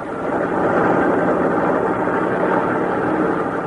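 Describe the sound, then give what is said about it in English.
A heavy truck engine roars steadily and loudly, a thick, continuous rumble with no distinct pauses or breaks, as the truck's brakes and gear shifting are heard, and no voices. “This is a song the truck drivers hear, the grinding of brake, the shifting of gear, song of the wheels and the well-traveled grooves, coastline to coastline, America moves”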